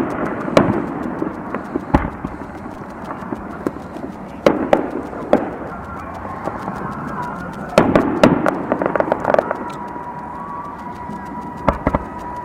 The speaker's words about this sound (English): I think they're just having a carnival at the beach and they decided to have fireworks too.